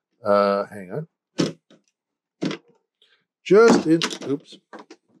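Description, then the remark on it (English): A car door is unlocked with the mechanical key and opened, on a car that is dead: two sharp mechanical clicks, about a second apart, between bursts of a man's voice. “And let's make sure I can get this door open here. I used the mechanical key, just so you know.”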